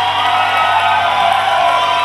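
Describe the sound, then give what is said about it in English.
A loud, sustained crowd cheer with whoops and shouts as the kids' ministry pastors are welcomed to the stage, a dense wall of voices holding steady for about two seconds without pause. “Crowd right there. That's what we like to hear.”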